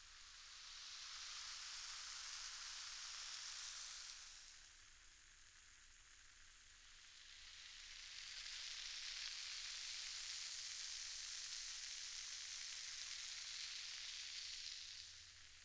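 A steady, bright fizzing crackle, like carbonated foam popping, from a fizzing product squirted into a hand for ASMR, swells for about four seconds, eases off briefly, then returns even stronger for the rest. No voices.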